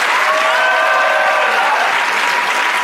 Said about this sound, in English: Ladies and gentlemen, start with that small golf clap again. Build your applause up.